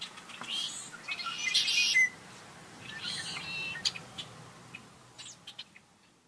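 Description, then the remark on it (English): Birds chirping and singing, with dense high-pitched trills and twitters in the first two seconds, then scattered sharp tweets and calls over a soft background hiss. No one speaks. “If we can do all those things, we may be hearing more of this.”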